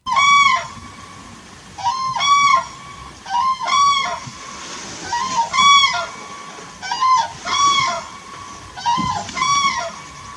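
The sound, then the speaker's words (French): Common cranes give loud, bugling courtship calls during the breeding season in quick paired bursts, repeating steadily for several seconds, clear with a faint background hiss and no voices. “Donc si on écoute un peu le chant au moment de la période nuptiale, c'est un petit peu ça.”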